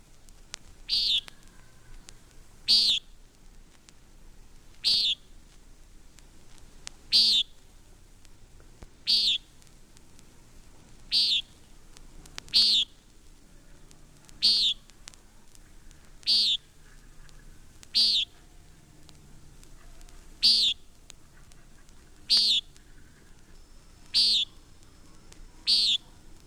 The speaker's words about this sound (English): common nighthawk.